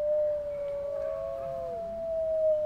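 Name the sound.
wolf pack howling together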